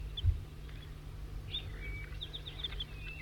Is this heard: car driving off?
no